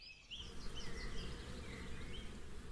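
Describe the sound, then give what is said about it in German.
A disturbed migratory night moth, one that takes small amounts of honey from bee combs, whistles when touched, giving short, high, squeaky chirps that rise and fall over a steady low insect-like buzz. There is no talking. “Und Das pfeifende Geräusch macht er übrigens nur, wenn er beunruhigt ist.”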